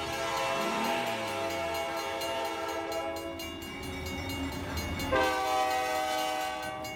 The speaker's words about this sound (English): The train was coming closer. I could hear its bell ringing and the cry of its whistle.